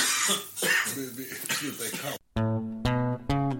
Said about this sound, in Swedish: Nu börjar vi hela tiden börja hosta. Vi kanske har fått covid här.